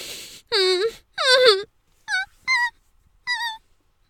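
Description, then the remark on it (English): A woman whimpers around a penis in her mouth in five short, high, quavering cries, two longer ones followed by three brief ones, fairly loud with quiet pauses between them. “I whimper around that cock in my mouth.”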